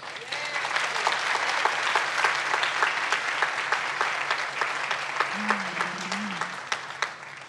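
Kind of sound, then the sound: crowd, audience applause and cheering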